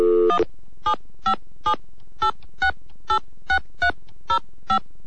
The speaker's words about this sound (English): That button and that button and those seven buttons. And yes, now I have a dial tone.